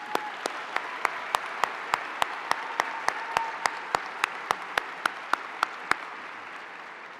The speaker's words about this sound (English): So let's give our faculty a round of applause.